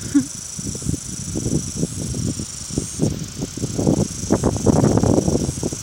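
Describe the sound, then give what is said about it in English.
A cicada's steady, high-pitched buzzing drone runs unbroken through the whole stretch, while irregular low, muffled rustling sounds come and go beneath it, growing a little louder toward the end. “There's that cicada again.”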